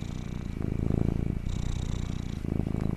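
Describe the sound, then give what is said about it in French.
A small cat purrs, a steady low rumbling in rhythmic in-and-out cycles, about three breaths' worth, with no voices. “Ah, un petit chat! Oh, comme c'est adorable ce petit ronronnement!”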